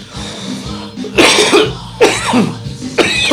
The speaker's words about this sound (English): Ah, the CBD, set it up. Smooth, man. This is some smooth shit. See, I wasn't even coughing. Well, a little coughing, but.